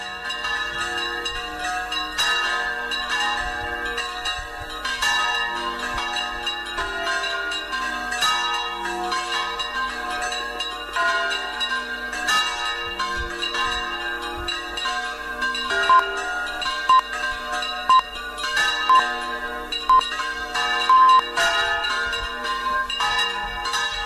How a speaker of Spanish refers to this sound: Uy, y suenan las campanas.